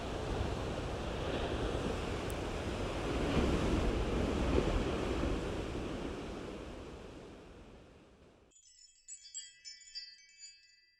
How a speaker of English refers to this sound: Along the coast of Oregon, Highway 101, it's pretty stormy out. Rain is coming and going. There's a brisk wind blowing. I read this morning that there was a gale warning.